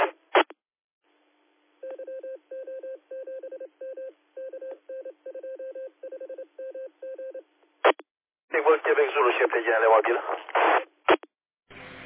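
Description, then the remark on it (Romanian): A quick run of roughly twenty short DTMF keypad beeps, evenly paced and clear, opens a radio repeater; afterward a crackly burst of transmission carries a voice talking over the radio. “Sunt într-o zonă unde deschid repetorul acum”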